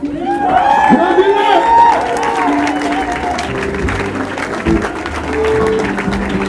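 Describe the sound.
A crowd bursts into loud, sustained applause for a guest who came from Stockholm, dense rapid clapping running throughout, with voices calling and cheering over it at the start.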